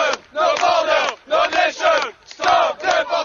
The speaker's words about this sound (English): You know something's up when French protesters are chanting in English, "Your brother, your nation, stop deportation."